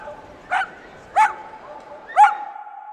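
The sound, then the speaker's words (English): Dogs bark at a dog park: three sharp, separate barks about a second apart, over a low steady background hum with no talking. “And finally, after an afternoon of pampering, it's time for a well-deserved trip to the dog park just around the corner.”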